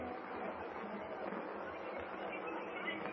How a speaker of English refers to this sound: Pray, I'm throwing the switch. There's the murmur of the crowd. Yes.